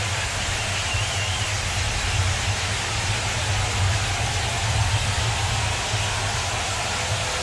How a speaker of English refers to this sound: Crowd making some noise here at Wrigley.